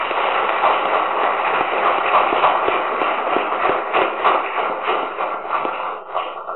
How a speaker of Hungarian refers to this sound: Szeretnék kérni külön egy nagy tapsot azoknak a tanároknak, akik nem léphettek föl